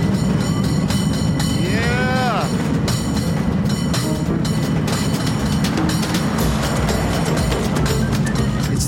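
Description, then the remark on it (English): A San Francisco cable car, pulled uphill by its cable at 9.5 miles an hour, rumbles and rattles steadily with a heavy, constant low vibration, while its bell rings briefly early on and sharp clanks tick through the noise. “You can feel the whole cable car vibrating, bell ringing.”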